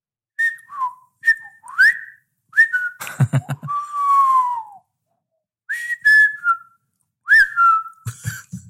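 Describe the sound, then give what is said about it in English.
Someone whistles a string of chirpy, warbling beeps and falling tones imitating a robot droid, broken by short buzzy bursts and pauses, fairly loud with no talking. “Yeah, just weird whistling.”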